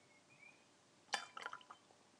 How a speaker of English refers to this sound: Now, the next thing you want is the sound of the milk being poured in. Let's make this dramatic.